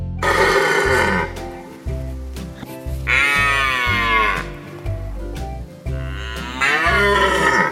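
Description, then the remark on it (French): A red deer stag bellows in the rut: loud, drawn-out, throaty roars repeated several times with brief pauses, each rising into a harsh, groaning call. No one speaks. “Je vous laisse avec le son du brame du cerf.”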